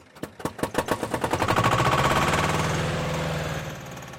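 An old Swiss mountain tractor with a mounted cargo bed, older than its owner, cranks over with slow, heavy knocks that quickly speed up into a loud, steady diesel chug, settling into an even idle. No voices.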